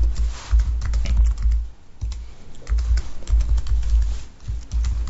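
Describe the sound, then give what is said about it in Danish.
Rapid keystrokes on a computer keyboard, with short pauses between bursts as someone types a username and password to log in to an intranet time-registration system; a low hum runs underneath and no one speaks. “Klik på den, og vi kommer nok til lige endnu en gang og skal skrive vores brugernavn og password.”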